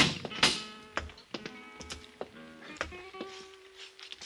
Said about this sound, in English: Parral and I opened the steel grill door